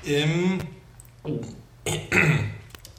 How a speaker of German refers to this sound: Jetzt vorsichtig husten.